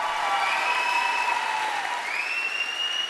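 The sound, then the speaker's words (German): Steady, dense clapping from an audience in a festival hall for a Sailor Moon dance show group fills the whole stretch at an even, fairly loud level, with a few sustained whistle-like tones riding above the applause. “Nochmal einen ganz super riesengroßen Applaus, bitte.”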